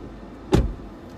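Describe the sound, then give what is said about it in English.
A single short mechanical clunk of a car door lock being unlocked to let a passenger out, fairly loud before fading quickly against a low, steady background hum. No one speaks. “I have to unlock the door and my mind won't let me do it.”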